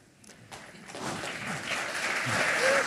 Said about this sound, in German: Geht das schon? Verhalten Applaus, aber immerhin.